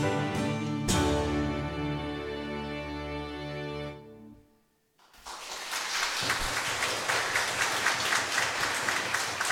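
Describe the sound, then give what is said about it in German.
A sustained musical chord rings out and fades to near silence, then an audience in a church breaks into steady, dense clapping that continues loudly to the end. “Sie sollen aber nicht nur klatschen, über das Klatschen freue ich mich.”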